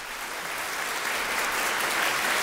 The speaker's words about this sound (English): We're going to bring in an actor. We're going to put in some applause and some reverb.